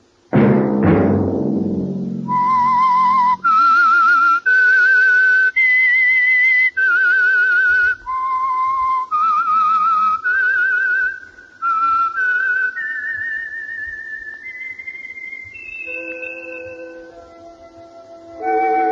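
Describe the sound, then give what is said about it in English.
A lone whistler carries a slow, haunting melody of sustained, wavering notes that climb and fall, following a brief low rumble at the start, with no talking. “Let that whistle be your signal for the Signal Oil program, The Whistler, each Wednesday night at this same time.”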